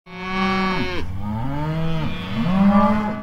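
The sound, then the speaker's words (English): A herd of 65 first-calf heifers gathered in a corral for branding moo loudly and continuously in overlapping, drawn-out calls that rise and fall in pitch, with no talking. “branding 65 first calf heifers, all gathered in their corral.”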